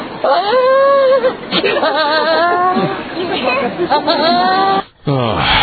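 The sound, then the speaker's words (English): A goat lets out a string of loud, wavering calls with an odd clucking, chicken-like quality, one after another with only brief gaps between them. “Chicken goat. Chicken goat.”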